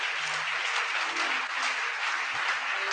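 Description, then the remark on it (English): Sustained applause from a crowd clapping for the Lord, a dense, steady wash of many hands clapping at once with no pauses, fairly loud and even throughout, no voices standing out. “Are you clapping for the Lord?”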